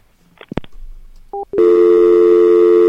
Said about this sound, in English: She hung up already. I'm just sitting there with the dial tone running.